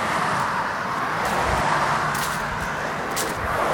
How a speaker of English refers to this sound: Yeah. All this traffic.